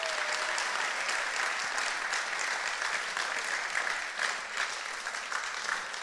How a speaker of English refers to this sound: Come on, give yourselves an applause.